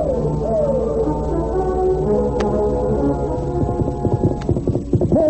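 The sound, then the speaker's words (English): Horses gallop as mounted Indians race in pursuit of Tonto and the masked man, with rapid hoofbeats growing more distinct toward the end, under loud, sustained, swelling music tones. No one speaks. “In a moment, the Indians were mounted and racing in pursuit of Tonto and the masked man who carried him away.”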